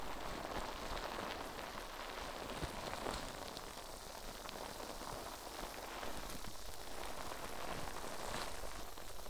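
Dense, steady crackling and fizzing of foam bubbles popping during a facial cleanse, a soft continuous hiss with tiny scattered pops and no talking.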